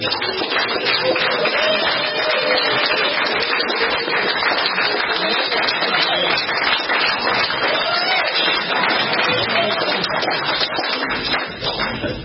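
Steady, dense audience applause with many hands clapping at once, loud and sustained for about twelve seconds before easing slightly at the end, with faint crowd murmur underneath.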